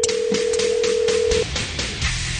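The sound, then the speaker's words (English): A phone line tone hums steadily for over a second, then cuts off, while quick, regular pulses tick along as a number in Rancho Cucamonga is dialed. No one speaks. “Calling Rancho Cucamonga.”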